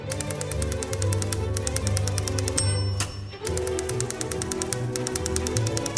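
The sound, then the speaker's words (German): Rapid, evenly spaced typewriter clacks tap out a steady rhythm over a bright orchestral accompaniment, with a brief bell-like ding and a short break midway before the clattering resumes. “Geräusche kommen auch schon seit langem in der Unterhaltungsmusik vor, etwa in der Schreibmaschinenmusik”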